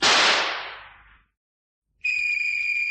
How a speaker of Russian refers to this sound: Кто стрелял? Кого стрелял? По какому случаю?